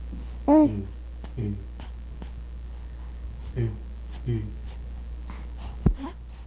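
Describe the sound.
Quiet, nasal breathing with a faint hum of voice, coming in a few short, soft puffs spaced a second or two apart, with small sharp clicks scattered between them.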